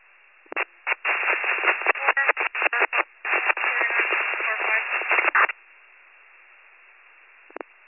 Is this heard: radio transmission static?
yes